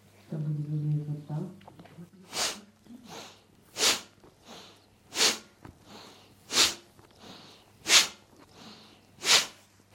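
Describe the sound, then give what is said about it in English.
A brief voice at the start gives way to forceful, rhythmic breathing during a twisting exercise: sharp, loud exhales about every second and a half, each followed by a softer breath, in a steady repeating pattern. “Moving with a powerful breathing.”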